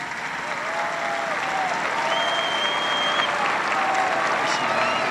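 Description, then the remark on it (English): A large youth audience applauds the Pope's address steadily for the full five seconds, a dense, even wash of clapping with faint whistles rising over it. “Judging by the applause, it was a challenge the youth appeared to accept willingly.”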